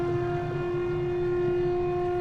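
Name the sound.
siren sounding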